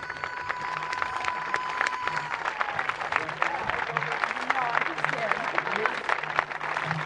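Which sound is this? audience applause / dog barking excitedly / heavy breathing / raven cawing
audience applause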